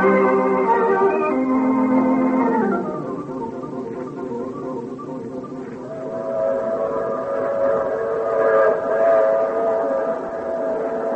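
A train rumbles steadily along the rails while its whistle sounds loudly, one long chord that slides down in pitch, and after a short lull the whistle wails again over the clatter. No one speaks.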